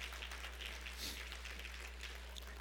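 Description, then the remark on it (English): A church audience applauds steadily, a dense crackle of many hands clapping at once, fairly faint over a low electrical hum, with no one speaking. “Yeah, round of applause.”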